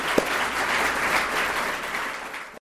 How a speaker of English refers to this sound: Let's give another hand of applause